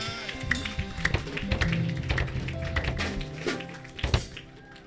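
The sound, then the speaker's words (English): An audience claps for the Lord Jesus steadily for about five seconds, many overlapping hand claps forming a dense, lively patter with a few sharper accents, while sustained musical tones hum underneath. “Clap for the Lord Jesus.”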